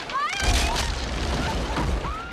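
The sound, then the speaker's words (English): A heavy, rumbling collapse as the side of a pool gives way and people fall into the river below, a steady wash of crashing noise and low booming lasting a couple of seconds, with faint cries mixed in. “side of the pool collapses and they fall into the river.”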